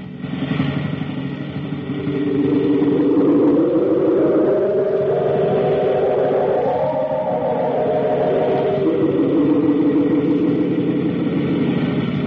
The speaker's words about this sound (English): Meanwhile, on the state road, next picture. A car goes whizzing down the highway. A motorcycle cop who is off on a side road exclaims, holy smoke, look at that hot rod go. Must be hitting around 90.